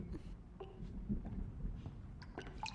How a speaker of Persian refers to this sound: وای خدا، هر جا رو نگاه میکنی داره چکه میکنه.